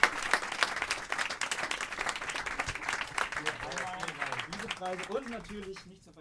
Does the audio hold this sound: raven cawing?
no